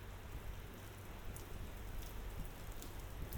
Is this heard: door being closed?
no